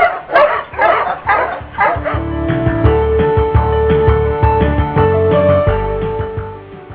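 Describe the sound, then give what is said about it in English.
A chorus of husky sled dogs barking and yipping in quick bursts at the start, then layered howling yips and whines continue over a steady crowd-like background, at the start of the 38th running of the Iditarod in Anchorage, Alaska. “Everybody, to a special edition of the Dog Doctor Radio Show and Must You Huskies, coming to you live from the start of the 38th running of the Iditarod in Anchorage, Alaska.”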